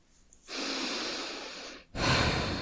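heavy breathing

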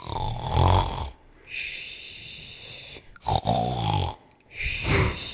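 snoring

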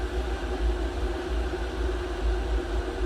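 water boiling

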